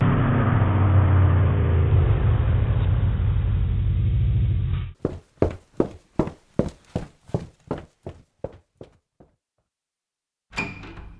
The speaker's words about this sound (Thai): เช้าวันต่อมาอัครขับรถยนต์คันงามแล่นมาถึงเทียบรั้วโฮมออฟฟิศของมะแม